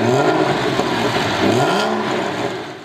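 A big petrol car engine revs up loudly, its deep rumbling note rising and falling in pitch across a couple of surges before easing off at the end.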